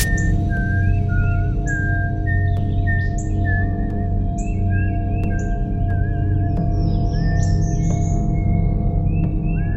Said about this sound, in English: I just saw my wife whistling "Mary Had a Little Lamb" and smiling as she walked